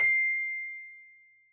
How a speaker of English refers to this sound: Listen again and repeat the words when you hear the bell.